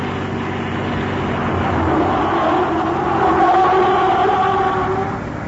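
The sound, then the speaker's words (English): A car engine roars at speed for several seconds going up a winding hill road, its pitch swelling and dipping as it takes the turns fast, loud with a rushing road noise underneath and no voices. “But you go so fast around those turns.”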